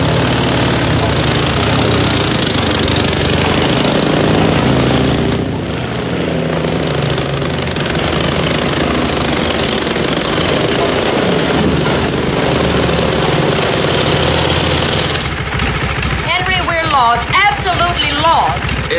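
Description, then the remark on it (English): A motorcycle engine idles steadily, a continuous low rumble that runs the whole time, with a voice briefly speaking over it near the end. “This motorcycle will go anywhere.”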